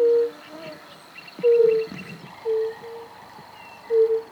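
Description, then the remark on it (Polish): A European fire-bellied toad gives four soft, low, mellow 'oop' calls, each short and pure-toned, spaced about a second or more apart over a faint, steady background hum. “Kumak nizinny kumka.”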